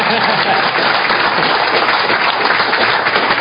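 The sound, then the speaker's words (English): Sustained audience applause, a dense, steady wash of many hands clapping at an even loudness for several seconds with no pauses. “And you can applaud on that.”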